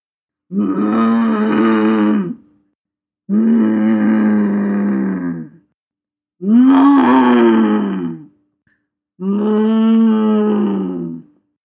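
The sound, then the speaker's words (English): Naboo balloon cows, a mammalian species that becomes airborne by floating, let out four long, loud, low-pitched groaning grunts. Each lasts about two seconds and is separated by short silences, with a rough, throaty, droning tone and no talking. “Ah, yes, the famous Naboo balloon cows. One of the few mammalian species to achieve a form of aerial transportation.”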